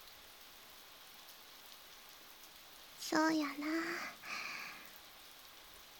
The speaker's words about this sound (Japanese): 今日の雨やったら優しい雨、霧雨といって霧のように細かい雨ですね。さーって静かになってて優しい音してません？